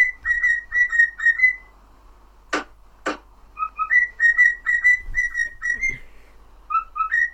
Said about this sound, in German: Digga, geh mal weg mit diesem Vogel. Digga, Vogel ist anders wild. Das ist aber ein Vogel.